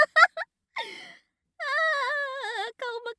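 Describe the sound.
An adult voice imitates a crying baby: a few short sobbing bursts, a breathy gasp, then a long wavering wail and a final cry, fairly loud with no other speech.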